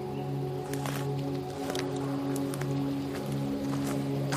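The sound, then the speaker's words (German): Irregular crunching and crackling footsteps on dry twigs and leaves while walking uphill through forest undergrowth at night, with sharp snaps every second or so, set against a steady low droning hum. “Unter unseren Füßen knackt und knistert es.”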